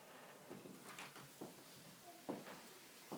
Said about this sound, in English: Just close this door.